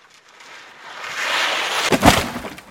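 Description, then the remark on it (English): A rushing swoosh builds for about a second and a half, then ends in a loud crash with a few sharp cracking snaps as a snowboarding father crashes into a tree on a snowy mountain and breaks his leg. No voices. “Dad crashes into tree and breaks leg.”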